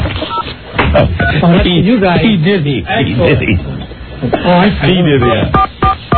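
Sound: telephone touch-tone dialing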